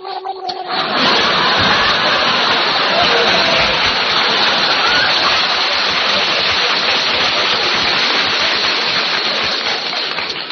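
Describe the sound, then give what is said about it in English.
Water gushes into a sinking boat with a loud, steady rush that starts abruptly after a second and churns on without pause, full and heavy. “Got to turn back to shore. This boat is sinking.”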